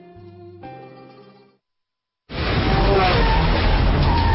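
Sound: sports car tires skidding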